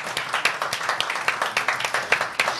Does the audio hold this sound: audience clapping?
yes